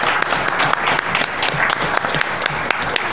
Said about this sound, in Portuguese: Quero uma salva de palmas para o senador Simon, que está aqui com a gente.